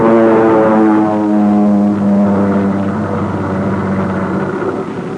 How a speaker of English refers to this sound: the plane's coming in again